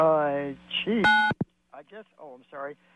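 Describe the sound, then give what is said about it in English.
A loud, brief burst of phone keypad tones, a steady electronic beep lasting a moment, followed by a sharp click, with a voice talking before and after. The tones come from a caller accidentally pressing the phone against their head too hard while talking. “I'm trying to talk on my sandwich phone, and I pressed it to my head too hard.”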